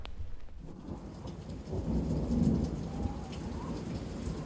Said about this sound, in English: I'm an old man, and I've seen lots of Christmases come and go, and they're never white, and it's raining again and again and again and again.